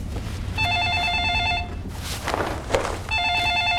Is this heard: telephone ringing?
yes